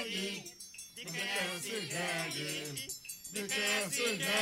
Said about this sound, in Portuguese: Ah, rapaz, não é jegue não, é jumento.